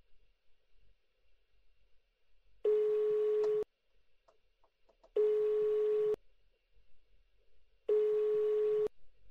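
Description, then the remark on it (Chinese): A telephone ringback tone sounds three times, each a steady one-second hum separated by brief pauses, heard clearly and alone as a call is placed to the caller's boyfriend. “给他打个电话。”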